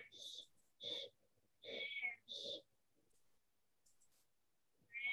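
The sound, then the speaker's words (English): A cat meows several times, short insistent calls in quick succession saying it is time for dinner, then a pause before one more meow starts at the end. “I have a cat here that likes to talk.”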